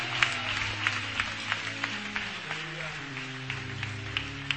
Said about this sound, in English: Come on, give the Lord a hand clap, church. Give the Lord a hand clap.